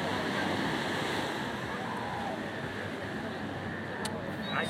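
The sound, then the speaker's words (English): Ocean waves wash in a steady, rushing roar of surf that fills the whole clip at a fairly constant loudness, with a slight swell toward the end. “So I hope you can hear the waves.”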